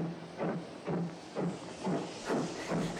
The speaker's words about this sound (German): Achtung, bitte auf Gleis 3. Soeben fährt los der ICE Fürst Bismarck über Timbuktu Achselschwang nach Polaroid. Bitte Vorsicht.